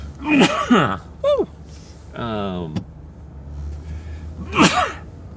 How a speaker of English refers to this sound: I'm about to sneeze.